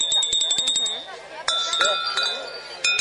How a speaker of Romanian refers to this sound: Aștia sunt clopoței mici. Au așa un sunet, este puțin mai mari.